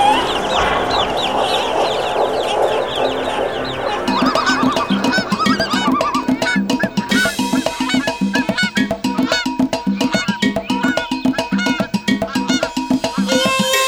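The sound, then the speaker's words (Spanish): High, thin cheeping of a chick repeats rapidly at the start, then continues amid a busy, rhythmic clatter of tapping and tonal sounds that fills the rest. “Si en noches de luna llena escucha llorar a un niño y piar a un pollito, esa es la gualgura, que va acompañando al angelito para que pueda subir al cielo.”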